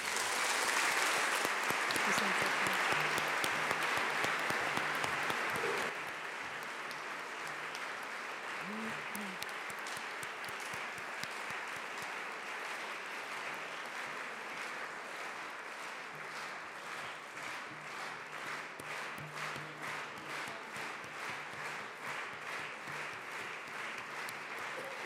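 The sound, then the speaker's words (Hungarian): Sustained audience applause after a lecture by Andrek Andrea, a dense crackle of many hands clapping, loud for the first few seconds then settling into a steady, slightly quieter patter that continues throughout. “A Tapsból ítélve szerintem nagyon sokan meg fogják majd keresni a szünetben.”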